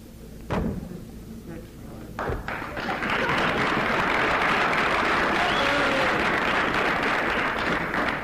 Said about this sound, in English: I'm just going over here and grab this here chair. I'm going to come back on and I'm going to put it down and put my foot on it.